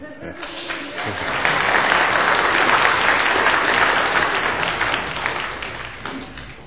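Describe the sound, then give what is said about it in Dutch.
A church audience applauds steadily, the dense clapping swelling after the first second, holding loud for several seconds, then tapering off toward the end. “Je mag best klappen.”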